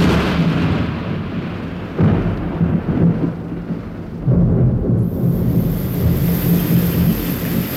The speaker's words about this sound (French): Tiens, là, la pluie.